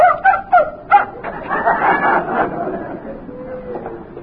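A dog gives four quick, sharp yips, then breaks into a higher drawn-out whimpering whine that gradually fades to a soft, faint whimper.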